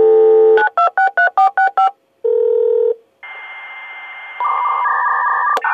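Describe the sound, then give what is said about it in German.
A dial-up modem dials a quick run of touch-tone beeps, holds a steady tone, then breaks into loud hissing, screeching handshake noise while connecting to the internet. It is clear, with no voices. “Eines, was immer wieder erwähnt wird, sind natürlich die ersten Internetzugriffe über die Modem, die komisch gesurrt und gepfiffen haben.”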